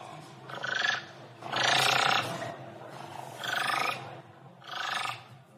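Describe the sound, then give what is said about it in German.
A thick-billed raven, a huge raven-like bird with a very large bill, gives four harsh, rasping croaks, each lasting around half a second, separated by short pauses. The calls are loud and coarse, with no voices present. “aus wie ein riesiger Kolkrabe eigentlich.”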